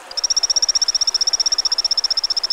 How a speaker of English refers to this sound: Say you're a male of a species called the Brazilian torrent frog, and you live alongside a fast-flowing stream in the Amazon jungle. You happily chirp away, advertising your availability to whatever female torrent frogs are around.